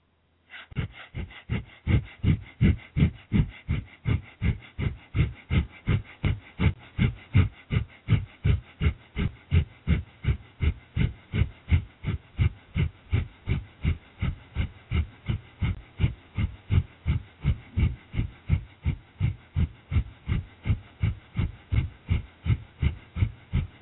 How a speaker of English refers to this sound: Note, if you feel dizzy, slow down the force and or speed at which you are doing the breathing. Or you can substitute long, deep breathing for breath of fire until you feel ready to switch to breath of fire again.